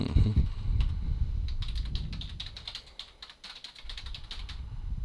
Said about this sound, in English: Wasn't sure if I just forgot to type it because I was typing too many other things.